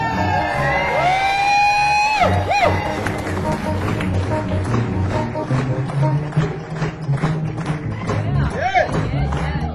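A loud crowd cheers and applauds for about ten seconds, with dense clapping throughout and high whoops and shouts rising above it near the start and again near the end. The audience at a live band show is cheering a bass player introduced as being from Springfield, Missouri.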